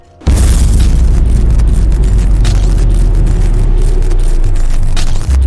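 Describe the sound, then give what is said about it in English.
A loud explosion erupts abruptly and rolls on as a sustained, roaring rumble with deep bass and crackling bursts, filling the space for several seconds before cutting off. “And that's when the explosion and light show begins.”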